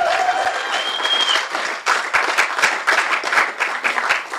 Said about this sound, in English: One more round of applause for ….